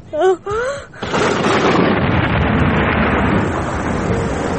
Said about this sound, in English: In our approach march to Salamanca, in crossing the Agueda River, we were hit by a storm of incredible ferocity. Several cavalry horses were killed by lightning. Many bolted.